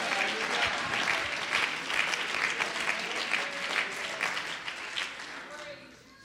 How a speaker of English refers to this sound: Oh, could you clap your hands and lift your voice as if to say, thank you, Jesus.